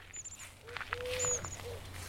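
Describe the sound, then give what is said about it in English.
Faint, low cooing from Eurasian collared doves calling back and forth outdoors in a courtship duet, one lower pitched and the other higher pitched, with thin high chirps, scattered rustles and a steady low background rumble. “That's a collared dove, isn't it? Yeah, it's that courtship duet. I love Eurasian collared doves.”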